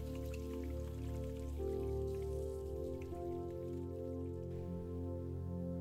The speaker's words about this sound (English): Feel the coldness of the spray as it hits your wrists. Smell the soap as it washes your worries away. Hear the splashing as the water cascades into the sink.